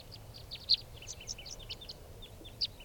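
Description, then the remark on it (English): Five birds call with quick, high chirps and short tweets scattered irregularly over a low rumble of background noise, one or two notes standing out louder than the rest, as the birds come back and land on the ground by a truck. “Calling more, now coming back. And now they're all five are down on the ground.”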